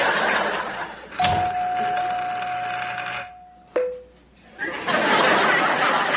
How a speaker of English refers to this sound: I'm tired, honey. Please. I'm so tired, I'm too tired to answer the doorbell. Would you please?